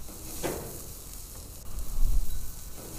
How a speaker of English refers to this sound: After the grill heated up to around 650 degrees Fahrenheit, 343 degrees Celsius, which on this very windy evening took about 15 minutes, I took the patties outside and dropped them on the grill.